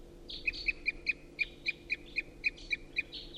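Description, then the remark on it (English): A wild crossbill in the trees above gives a steady run of about eleven short, sharp, loud toop calls, evenly spaced a few per second, clear over a faint low background hum. “And there's still a lot of crossbill activity in the trees right above.”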